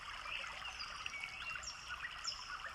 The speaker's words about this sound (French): J'entends l'eau d'une rivière qui coule pas très loin. Son clapotis, le chant des oiseaux.